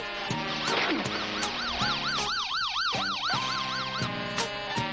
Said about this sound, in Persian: دختر کوچولو با آمبولانسش میرسه، پلنگ صورتی رو سوار میکنه و با خودش میبره شبیه یک پرستار.